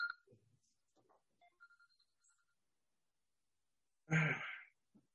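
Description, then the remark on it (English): A phone rings faintly with a few short electronic tones in the background, a call from Duke Power, followed by a loud breathy sigh into the microphone. “Now my phone's ringing.”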